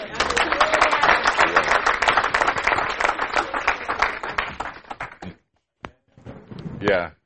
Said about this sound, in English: That's a great guy. Clap for him.